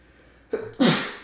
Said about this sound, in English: Bless you.